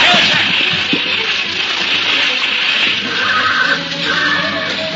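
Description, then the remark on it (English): Richard's horse, struck by an arrow during a river crossing on a ferry raft, whinnies loudly in pain and distress and lashes out, upsetting the raft, over a constant wash of splashing, churning river water that fills the whole scene. “Richard's horse, struck by one of the arrows, lashed out in pain, upsetting the raft.”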